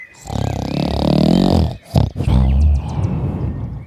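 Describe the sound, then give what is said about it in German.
A giant's loud, throaty snore, voiced in a telling of the tale of Hans and the hen that lays golden eggs, loud enough to shake the whole house: a long rumbling, growly drawn-out breath, a brief pause, then a second rough, rattling snort, with no words spoken. “Und dann begann der Riese einzunicken und zu schnarchen, dass das ganze Haus wackelte.”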